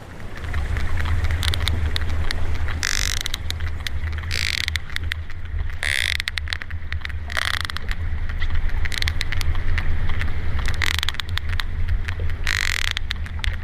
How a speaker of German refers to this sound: Das sind die Klicklaute einer Pottwalfamilie. Es ist ein ganz seltener Moment. Die Tiere begrüßen ein Neugeborenes.